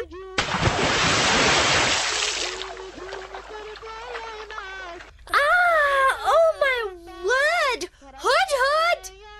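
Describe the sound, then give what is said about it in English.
A sudden, heavy splash of water, poured over a sleeping girl to wake her, gushes for about two seconds, then a voice lets out drawn-out, wavering groans and wails. “Poured water all over me.”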